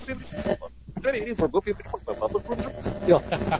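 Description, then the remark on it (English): A person vocally imitates a warbling Bell and Howell film projector of the kind used to show films in school, producing a wavering, humming tone with fluttering pitch that rises and falls continuously for a few seconds. “Anyway, that was my best imitation of the Bell and Howell projector.”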